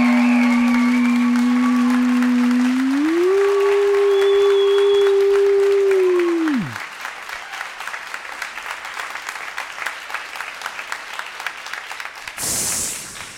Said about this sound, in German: Und jetzt euer Applaus